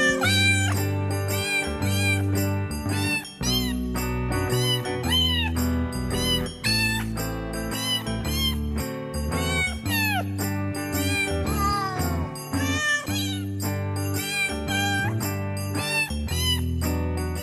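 Cat meows pitched and sequenced into a bouncy jingle melody over a steady musical backing with a thumping bass line, loud and continuous for the whole stretch, no talking.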